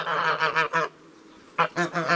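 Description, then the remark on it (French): Large grey geese with long necks honk loudly in quick, nasal calls: a run of about four honks, a brief pause, then another burst of three, with no talking. “Voici les oies. Ce sont de gros oiseaux, avec un plumage gris et un long cou.”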